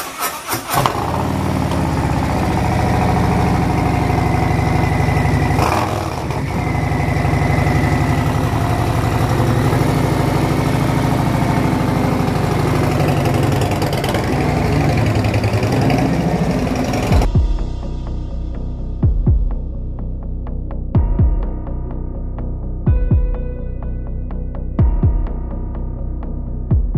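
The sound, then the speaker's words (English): A stock Harley-Davidson motorcycle engine, before a Stage Two upgrade with a Screaming Eagle 511 cam, idles with a loud, deep, throbbing rumble, steady at first, then settling lower with periodic heavy thumps pulsing through its lopsided beat. No one speaks. “All right, guys, this is what it sounds like before.”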